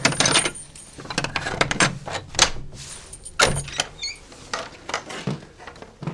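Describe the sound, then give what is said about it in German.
The old wooden historic door of a historic house and courtyard creaks and squeaks as it is opened, with a run of sharp clicks and knocks and a few brief high-pitched squeals, no voices. “So, es knarzt und es quietscht, wie es sein soll in einem historischen Haus.”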